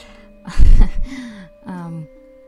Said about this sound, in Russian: чем я трусь об микрофон? Я трусь ничем, я дышу.